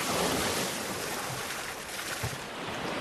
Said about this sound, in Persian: موجای دریا اتاقمو تکون میدادن. از درزای کوچیک اتاق آب می اومد.